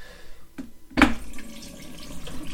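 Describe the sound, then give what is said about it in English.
Water sloshes in a sink full of water with a teaspoon in it, with a soft clink near the start, then a brief loud splash and continued swishing as a washing bowl is washed with the plug in, without any talking. “So, pull the plug in and washing that bowl, and yeah, I did say washing that bowl and let that out.”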